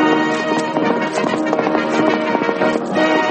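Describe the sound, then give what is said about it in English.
Rapid, rhythmic hoofbeats of the Sultan's galloping horse, ridden in an escape from the Sultan, drive steadily along with loud, bustling music throughout, with no voices. “I've got the Sultan's horse. Let's go.”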